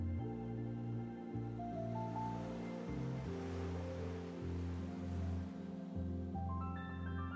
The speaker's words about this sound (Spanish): Y ya, en la noche, puedes observar las estrellas en el cielo, mientras escuchas el suave murmullo del mar.